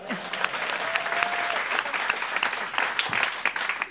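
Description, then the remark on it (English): A steady wash of audience applause at a live band concert, many hands clapping densely and continuously at moderate volume, with a brief faint tone and scattered crowd noise mixed in. “But then over there, oh wait, hold on, there should have been applause.”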